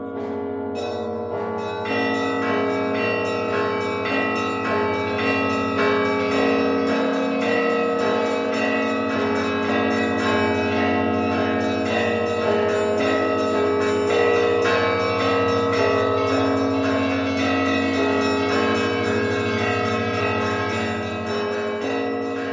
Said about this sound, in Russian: Проводилась аудиозапись колоколов звонов Троицы Сергиевой Лавры.